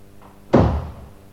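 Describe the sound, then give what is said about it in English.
A single loud door bang upstairs on the first floor of a house, sharp onset then a short booming decay, heard alone with faint background noise before it. “A door banged on the first floor.”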